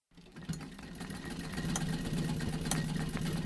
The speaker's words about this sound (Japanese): さてこの音、何の音か分かりますか。懐かしい足踏みミシンの音です。にぎわいの家の入り口すぐ目に入るのが懐かしい足踏みミシン。皆さん立ち止まって思わず見ておられます。